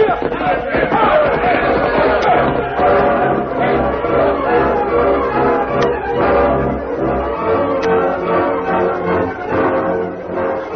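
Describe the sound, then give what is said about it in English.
Distant war cries of attacking riders, heard from inside a fortified stagecoach station: a mass of voices whoops and yells in a steady, overlapping din, staying loud and dense for the whole stretch with no clear words. “Inside the fortified stagecoach station, the Lone Ranger, having returned from Rock City, heard the distant war cries and shouted, Here they come.”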